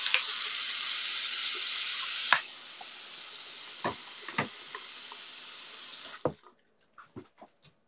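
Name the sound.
running tap water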